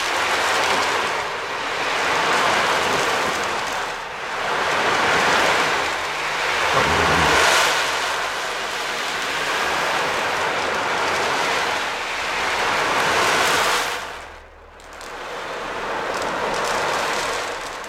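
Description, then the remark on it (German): An ocean drum, a drum meant to imitate the rushing of the sea, rolls in slow, swelling washes of rushing noise, rising and falling like waves breaking on a shore, fairly loud, with a brief pause near the end. “Und ein absoluter Hit bei meinem Sohn ist die Ocean Drum. Und das ist eine Trommel, die das Rauschen des Meeres sozusagen imitieren soll.”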